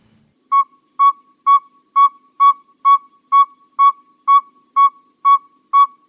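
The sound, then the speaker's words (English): A pocket-sized saw-whet owl gives a long, steady series of about a dozen high, mellow toots, evenly spaced roughly two per second, each clear and loud against a quiet background with no talking. “And then we get like this tooting sound of the pocket-sized Saw-Whet owl, which doesn't sound like an owl at all.”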